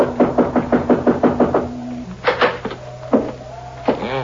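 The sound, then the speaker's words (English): A rapid, steady run of about eight sharp knocks on the wooden door of a house, fairly loud, followed by a few scattered thuds and a brief creak. “I guess we knock.”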